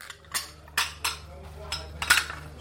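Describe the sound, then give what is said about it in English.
Plates, pans and other kitchen utensils of a family who just moved in, still lying in plastic boxes on the floor, clink and clatter in about five sharp, irregularly spaced knocks over a steady low background hum, in Lebanon. “Muhammad and his family have not yet had time to unpack their kitchen utensils. Plates and pans are still lying on the floor in plastic boxes.”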